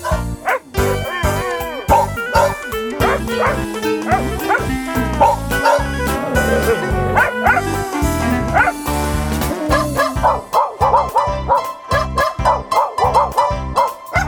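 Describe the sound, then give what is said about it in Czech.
Dogs bark and yip in quick, repeated bursts, loud and close, layered over a steady rhythmic musical backing that runs throughout without a break. “My jsme psi z Nové vsi.”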